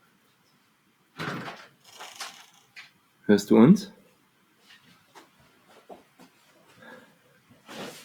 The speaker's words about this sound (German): Oh, Michelle macht die Tür zu.